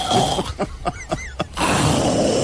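A person snores in a short, rough burst of sputtering, rattling pulses, irregular in rhythm, with steady hiss before and after.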